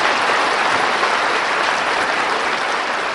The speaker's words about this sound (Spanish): Yo voy a dar un aplauso para Jesús. ¡Qué lindo que es Jesús!